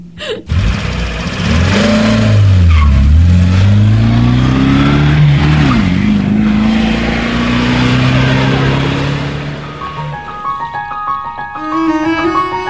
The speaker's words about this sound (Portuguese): Olha, o ônibus chegou. Preciso partir.